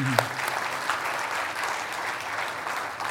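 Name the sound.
church audience applause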